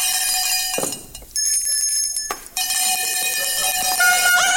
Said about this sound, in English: Listen to those bells!